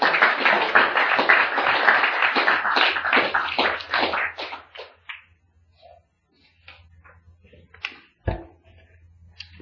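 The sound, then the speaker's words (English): An audience at a meeting bursts into loud, dense applause and cheering for the evening's speaker. It holds for about four seconds, then thins out into scattered individual claps, with one sharp thump at the end. “Give it a cheer for Rich.”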